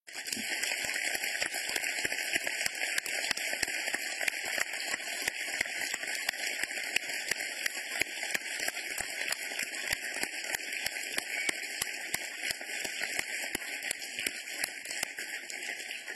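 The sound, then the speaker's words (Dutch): Enthusiastic applause from the audience at a council meeting after 30 new council members are installed, a dense, steady wash of many hands clapping that holds at an even loudness for the whole stretch, with no voices standing out. “En is het nu tijd voor een uitbundig applaus.”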